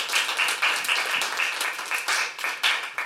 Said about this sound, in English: So I think that that deserves another round of applause.